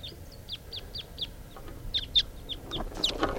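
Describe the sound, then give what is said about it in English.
A wild type 2 bird, flying, calls in a quick series of short, sharp, high-pitched chip notes, about a dozen in a fairly steady rhythm over a low rumbling background. “Starting at 6:42, and I hear a type 2 bird.”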